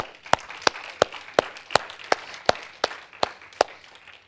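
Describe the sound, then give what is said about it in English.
Steady, rhythmic clapping from a church audience praising God, about eleven sharp claps evenly spaced over four seconds, with a softer wash of scattered clapping and murmur beneath them. No one speaks. “Let's give God a praise and a clap for that and thank Him.”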